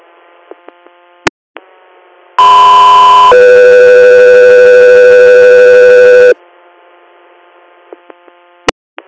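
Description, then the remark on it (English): A loud, steady two-part dispatch alert tone plays for about four seconds, one pitch shifting into another, set between bursts of radio static and brief squelch clicks with no talking, sent to an air medical unit ahead of a weather-check request for a transport from Sayre, Pennsylvania. “Echo 3 Air, stand by for tone.”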